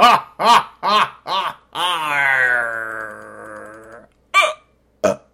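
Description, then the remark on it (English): Four quick hiccups in a row, then a long, drawn-out burp lasting about two seconds, followed by two more short hiccups. Fairly loud, with no talking. “Whoa, and hiccup burp.”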